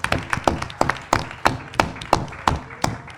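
An audience applauds with steady, rhythmic clapping, sharp claps landing about three times per second at a moderate level, with no voices over it.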